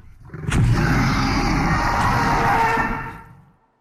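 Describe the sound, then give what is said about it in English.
A single loud movie dinosaur roar with a shrill, high-pitched screaming edge over a deep rumble, bursting in abruptly, holding for about three seconds, then trailing away. “let me make sure we have our roar straight. You called about Jurassic World. Is this the roar in question?”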